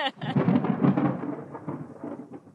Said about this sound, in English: It goes decades without a single drop of rainfall. And then, just before they arrived, yep, it rained.